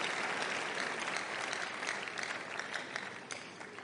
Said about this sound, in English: I can see somebody wants to clap for the Lord. If you do, please do that joyfully.